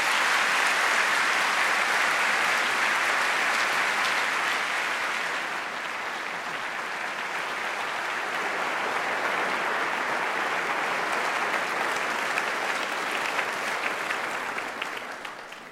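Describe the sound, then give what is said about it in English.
Sustained audience applause welcoming Secretary Hank Paulson on stage, a dense wash of many hands clapping at steady loudness for about fifteen seconds, easing slightly midway and tapering off at the end. No speech. “Let me put words to that applause by thanking you before we begin the interrogation.”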